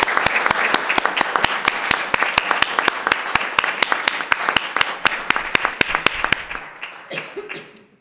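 An audience applauds steadily, a dense wash of many hands with sharp individual claps standing out, holding strong for about seven seconds before thinning out and fading.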